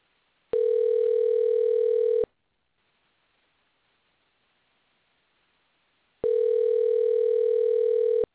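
A steady electronic telephone tone sounds twice, each lasting under two seconds, separated by a long silent pause, as a dropped caller is being called back on the phone line. Clear, with no voices.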